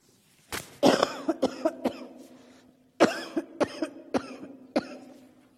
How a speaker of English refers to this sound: I'm going to have to cough sometimes, so excuse me.